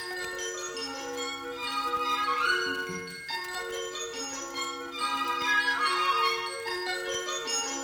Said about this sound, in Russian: Смотрите, смотрите, сколько колокольчиков! И все сюда бегут.